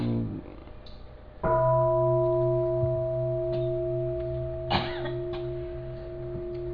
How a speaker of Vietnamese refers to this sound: Thỉnh tiếng chuông đi.